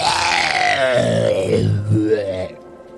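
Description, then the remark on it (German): A human voice imitates a revolting, gurgling scream, a strained, throaty wail with rattling, bubbling texture that wavers in pitch for about two and a half seconds before cutting off. “Aus den dumpfen Schritten wird ein widerwärtiges, gurgeliges Geschrei.”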